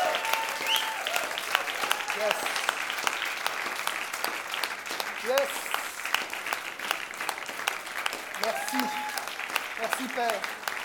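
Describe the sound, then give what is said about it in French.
A standing audience claps in sustained, dense applause for the Lord Jesus, lasting the whole stretch, with scattered voices and faint cheers rising through the steady patter of hands. “Et j'aimerais maintenant, alors qu'on s'est levé pour se remercier les uns les autres, j'aimerais qu'on donne une vraie main d'applaudissement pour notre roi des rois, le Seigneur Jésus, parce que c'est à cause de lui qu'on est là.”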